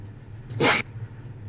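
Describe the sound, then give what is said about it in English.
A single short, sharp sneeze bursts out over a low steady hum, lasting only a moment before quiet background returns. “Bless you.”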